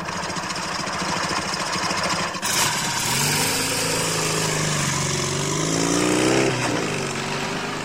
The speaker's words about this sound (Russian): Козадоев с Семен Семеновичем едут на мотоцикле. Семен Семенович спит. Также поворачивает на Белую скалу.